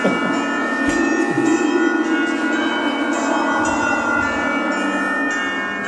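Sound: church bells ringing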